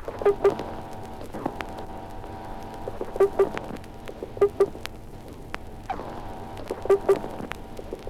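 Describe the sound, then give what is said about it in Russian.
A gurnard (sea robin) in an aquarium makes sounds when frightened: short, paired knocking grunts with a buzzy, tonal edge, repeating every second or two against a steady underwater hiss. No one is speaking. “Звуки, издаваемые морским петухом при испуге.”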